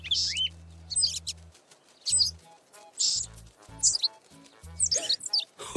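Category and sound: bird, birds chirping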